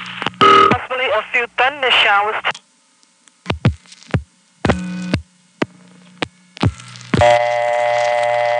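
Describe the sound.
A telephone call to the weather line: a warbling, voice-like sound opens, then a string of short, sharp dialing tones and clicks as 936 plus four digits are dialed, ending in a steady ringtone that holds loud to the end.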